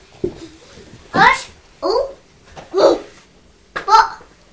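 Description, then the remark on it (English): A dog named Alice, the neighbours' dog next door, barks four times at steady intervals, short sharp yelps that sound somewhat muffled, with quiet background between them, barking because the newspaper has just been delivered. “That's Alice next door barking because the newspaper's just arrived.”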